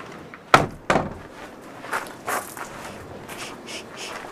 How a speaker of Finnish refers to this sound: Pistetään ovi kiinni.